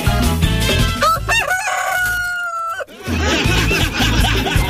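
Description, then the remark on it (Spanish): A rooster lets out a single loud, drawn-out crow, its rising call holding steady before cutting off, with busy music playing before and after it. “Oye, volvió el gallo.”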